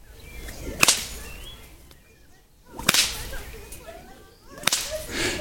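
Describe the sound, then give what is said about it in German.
A whip is swung and cracked three times at a steady, unhurried pace, each sharp snap ringing out loudly, with a brief swish before it and quiet outdoor ambience between. “Ja, du musst halt zusehen, dass die Peitsche lang bleibt, ne?”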